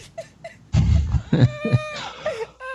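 A person whimpers and cries up close, with soft high squeaks, then gulping, breathy sobs and a wavering, rising-and-falling wail that trails off.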